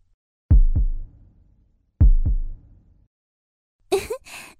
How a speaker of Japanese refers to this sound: でも私もさっきよりすごくドキドキしてます。はっ！いえ、びっくりしただけです。だって先輩いきなり胸に触ってくるから。手のひらでドキドキ、わかります？